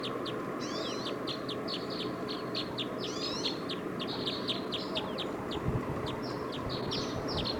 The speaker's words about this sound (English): Decoys now are calling a lot.